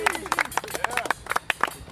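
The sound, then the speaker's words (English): Roadside spectators at a bike race clap in quick, uneven bursts, fairly loud, with excited voices calling and cheering over the applause for a couple of seconds as cyclist Geraint Thomas rides past. “Hearty round of applause for him.”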